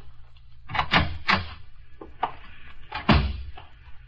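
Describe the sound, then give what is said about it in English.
A door leading to the street being opened: a cluster of wooden clunks and rattles, then a brief pause and a single louder thump, with faint scuffing between, no voices. “There's another door leads to the street.”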